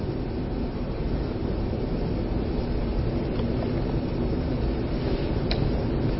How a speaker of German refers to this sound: Hier sind Geräusche, Klimaanlage, Sitzen passiert, Atmen passiert, Leben passiert.